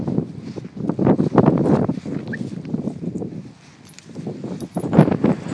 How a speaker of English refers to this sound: Sorry, for those who haven't already worked it out by the sound of the wind, I'm out walking the dogs.